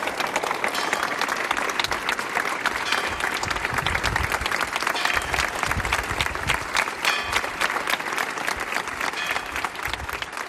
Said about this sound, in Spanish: Una plaza abarrotada que se ha fundido en un emotivo aplauso de varios minutos.